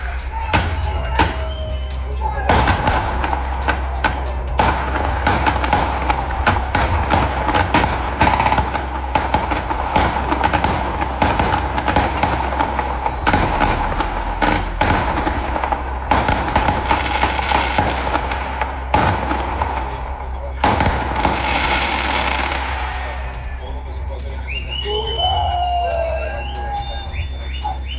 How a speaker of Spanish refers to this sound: disparos injustificados que también se registraron en el lugar